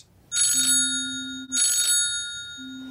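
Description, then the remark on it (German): A mobile phone rings in an apartment with bright, electronic trilling tones in two bursts with a short gap, loud, over a faint steady low hum. No one speaks. “Das Handy klingelt.”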